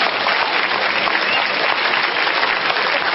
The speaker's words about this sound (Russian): Поехали под ваши аплодисменты.